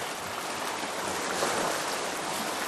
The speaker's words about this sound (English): Your perfect place, where you can hear the sound of waves crashing on the beach and the rustling of leaves on the palm trees.